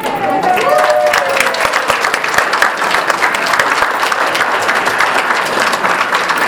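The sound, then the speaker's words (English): Sustained applause from a large crowd for the ACBL board of directors as they rise, dense overlapping claps holding steady and loud for several seconds, with a brief whistle near the start. “Now I would like to just have the members of the board of directors please rise so that we can clap for you.”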